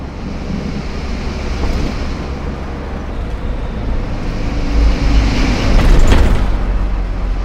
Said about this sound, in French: Avec un bus magique, en direction du Puy du Fou.